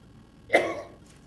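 A single brief, rough throat-clearing sound from a man, fairly loud against a quiet background, lasting under half a second with no talking.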